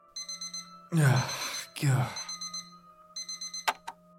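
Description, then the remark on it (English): An electronic alarm clock beeps in rapid, insistent pulses, broken by two loud, drawn-out groan-like bursts before the beeping returns and ends with a sharp click. “The moment I took her hand, the dream ended, and I woke up to the blare of my alarm.”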